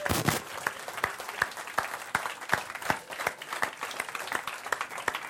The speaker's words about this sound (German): Also, Applaus.